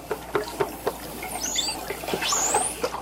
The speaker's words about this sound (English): One of these is the thunk call, a pattern of short knocks that sounds like a person drumming on a piece of wood.